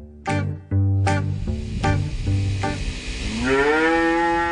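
Several brown cows moo as they come in from the pasture toward the stables on a farm in the afternoon, low drawn-out calls overlapping one another, with a sharp clang or bell-like strikes among them and a rising bellow at the end; no one speaks.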